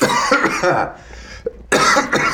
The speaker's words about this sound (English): He's coughing and I'm not. But I'm gonna start coughing any second now.